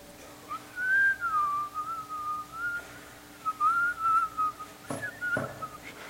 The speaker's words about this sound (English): I call this whistling past the graveyard. You ever heard that expression?